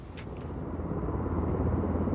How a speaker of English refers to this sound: And if you listen to that, that's kind of an unpromising start to a walk. I'm standing at Dyce Railway Station, and just across the other side of the tracks is the perimeter fence for Aberdeen Airport. And there are helicopters, paraffin budgies,